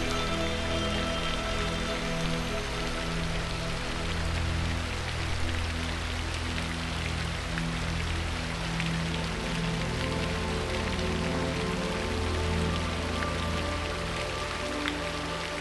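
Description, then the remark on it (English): Steady rain patters across a surface in a continuous, even hiss, blended with a soft sustained musical drone underneath. No voices are heard. “Suddenly, this beautiful pink rain comes alive with your higher self.”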